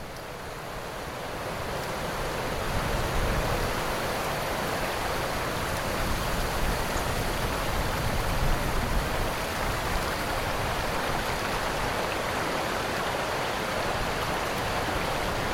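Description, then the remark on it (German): Gentle water of the Moldau (Vltava) river laps and washes in a continuous, steady murmur, swelling slightly over the first couple of seconds and then holding an even, moderate level with no voices. “Unter euch das leise Plätschern der Moldau.”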